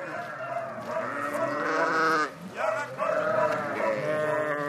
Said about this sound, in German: Am Ortsrand von Anach liegen die Schafställe, drumherum Weidefläche.